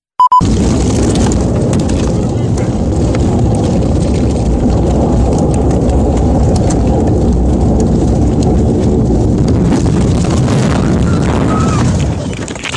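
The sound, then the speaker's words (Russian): Inside the cabin of an An-24 airplane during a hard landing in Buryatia, recorded by passengers: a loud, steady roar with heavy low rumbling and rattling jolts for about twelve seconds, opening with a brief high beep. “Пассажиры из кабины того самого самолета, момент жесткой посадки.”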